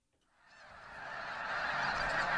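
A flock of geese honking together on a rice farm about 40 minutes north of Sacramento, California, the clamor swelling from quiet to loud and steady, a dense chorus of overlapping calls with no voices.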